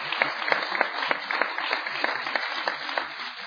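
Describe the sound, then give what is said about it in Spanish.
Steady audience applause as a director hands something over to the president of a group, many hands clapping in a dense, continuous patter with sharp individual claps standing out, holding at a fairly even moderate level throughout. “Le vamos a dar un aplauso para ellos, para él.”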